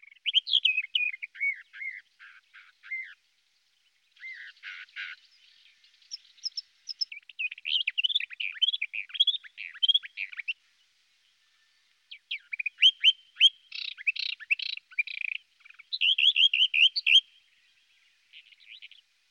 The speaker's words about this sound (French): Non, ça, c'est la fauvette.